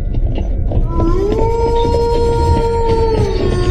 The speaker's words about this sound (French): Et vous entendez, au loin, le hurlement des loups.